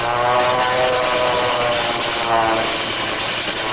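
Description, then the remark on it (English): A propeller airplane dives on other planes during an air battle high in the sky over Lake Tahiba, its engine a loud, steady, dense sustained roar with a slight rising and falling pitch as it dives past overhead. “Hey, look, the second plane has made a dive on them.”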